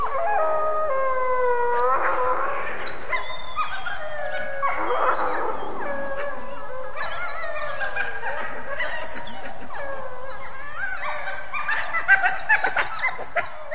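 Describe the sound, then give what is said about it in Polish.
Several young wild canid pups, feeling threatened, give high, wavering howls and yelps that overlap continuously, loud, shrill and desperate throughout, with faint bird calls in the background and no talking. “czują zagrożenie, to wtedy wyją przeraźliwie, głośno i rozpaczliwie, i to jest sygnał dla polujących rodziców, że trzeba natychmiast rzucić całą tą robotę i wracać do potomstwa, żeby je chronić.”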